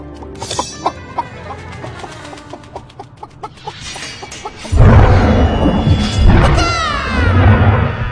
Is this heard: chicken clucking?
yes